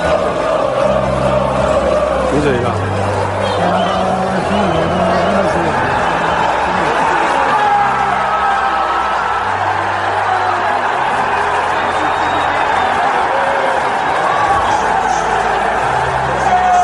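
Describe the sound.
A large crowd of football fans roars and cheers in celebration as they realise their team is going back up to Serie A, a loud, continuous wall of voices with chanting and shouting swelling throughout.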